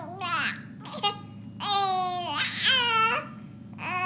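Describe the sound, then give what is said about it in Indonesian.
A baby babbles in a series of drawn-out, wavering vocal bursts with rising and falling pitch, fairly loud, separated by short pauses over a low steady background hum. “Bayi Anda masih belum bisa bicara.”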